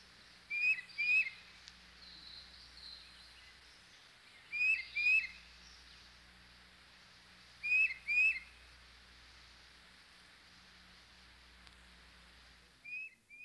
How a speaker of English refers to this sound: And here's the tufted titmouse.